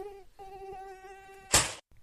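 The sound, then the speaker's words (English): A thin mosquito wing whine from a male and female pair synchronising their wing beats in courtship holds a steady buzzing pitch, breaks off briefly, resumes, then ends in a short loud burst of hissing noise. No one speaks. “An attracted pair will synchronise their wing beats, gradually increasing their speed.”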